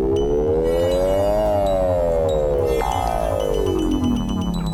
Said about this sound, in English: Then we got the weird metallic bell.